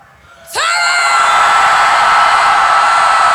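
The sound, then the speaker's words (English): After a brief quiet moment, a large audience, told to scream even louder on a count of three, suddenly erupts into loud, sustained screaming that holds steady at full volume without letting up. “That is, I wonder, however, if I count to three, and on three you would scream even louder.”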